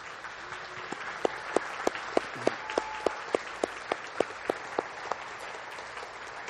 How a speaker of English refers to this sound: And so I thought it'd be nice if we recognize them by having them stand up, and maybe with a round of applause we could thank them.